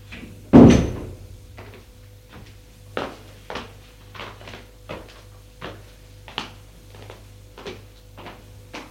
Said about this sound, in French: Frappe à la porte. Entrez. Elle entre.